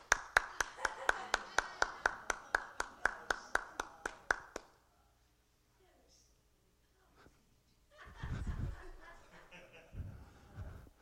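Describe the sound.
A baby clapping hands: a quick, steady run of about fifteen sharp claps lasting several seconds, then a pause and some low, muffled rustling or voice sounds.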